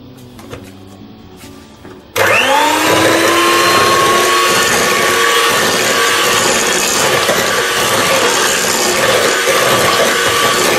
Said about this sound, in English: Then add 170 grams, which is 2 packets of jelly crystals, known as Jell-O or jelly, airplane jelly, have various names. Now just get a mixer and mix this in until the crystals have dissolved.